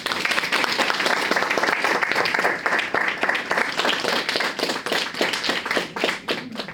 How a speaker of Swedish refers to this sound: Och alla lyssnar koncentrerat på redovisningarna som eleverna i de högre årskurserna turas om att teckentolka. Just nu enbart för en seende publik som ger varje redovisning en ordentlig applåd.